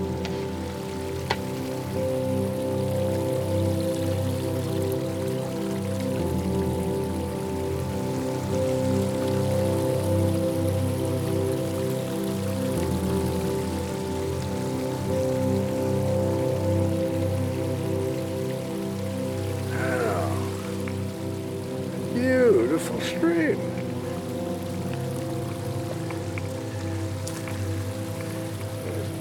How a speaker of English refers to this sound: Oh, look. Yeah, a stream. Let's stop and admire it for a bit.